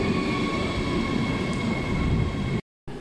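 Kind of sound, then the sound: vehicle, train arriving at station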